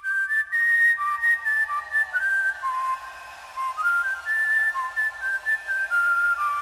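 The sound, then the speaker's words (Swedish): Intro of the newly released European Championship (Euro) football song: a bright whistled melody stepping between high notes in short phrases, steady and fairly loud, with no voices. “Och vi måste ju börja med EM-låten, och här liksom lyssnar vi lite på hur EM-låten låter.”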